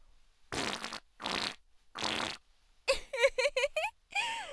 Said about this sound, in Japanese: もう息まなくても屁こけるわ。あ、咳込むのはやめてよね。私のうんこ臭い屁、お店に染みついちゃうから。頑張って全部嗅いでよ。